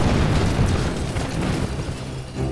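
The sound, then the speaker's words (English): A loud, sustained explosion roars with deep rumbling low end and crackling debris, filling the whole stretch without pause and dipping slightly before a final swell. “Using the shock of the explosion, I ran up behind one of the figures and stabbed him in the neck.”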